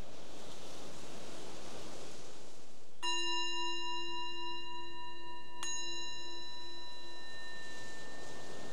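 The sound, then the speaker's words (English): A meditation bell is struck twice, the second strike landing while the first still rings, each leaving a clear, bright tone that slowly fades over a soft hiss of steady background noise. “So the bell is the invitation to bring your awareness back to the surface again, to your surroundings, and maybe just check in and notice anything you might have observed during that little practice period of paying attention to what's happening”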